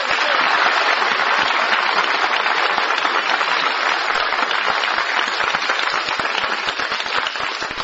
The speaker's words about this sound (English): Thank you, dear friends, for that spontaneous applause.